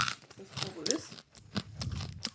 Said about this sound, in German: gerne näher ins Mikrofon kauen. Wir sind hier bei Bunte Grütze, da darf das.